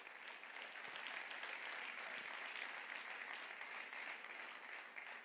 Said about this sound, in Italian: Fai questo applauso per Gesù.